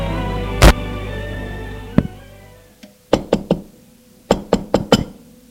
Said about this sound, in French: Elle va frapper à sa porte.